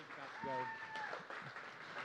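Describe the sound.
Audience applause rolls on steadily for the whole moment, a dense wash of clapping, with a drawn-out cheering voice rising briefly above it.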